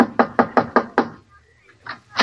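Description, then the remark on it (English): Five quick, evenly spaced knocks rap sharply on the wooden door of the house where the old prospector lives, fairly loud, followed by a short quiet pause before a voice begins near the end. “Hey, Curtin, this must be the house where the old prospector lives. Yeah, knock on the door.”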